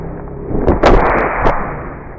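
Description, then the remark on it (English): A slowed-down recording of a hit to a football player's helmet: a few deep, drawn-out thuds and cracks over a heavy low rumble, the loudest strike coming in the first half, then a second duller knock. “Here's that same hit you just heard, slowed way down.”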